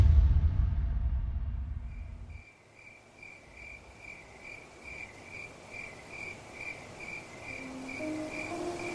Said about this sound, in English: Choirs of crickets filled the sky like a cascading cacophony.